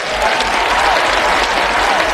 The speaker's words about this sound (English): As Pope Francis made his way down the aisle, there was no glad-handing or back-slapping. Speaker of the House John Boehner had banned all that. So they cheered Francis, and he stood there for a moment, taking it all in.